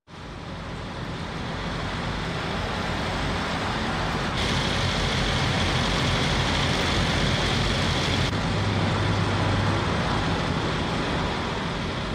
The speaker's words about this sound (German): Dieses Brummen stammt von den Aggregaten der Kühlwagen vor New Yorker Krankenhäusern, in denen Leichen lagern, weil die Totenkammern überfüllt sind.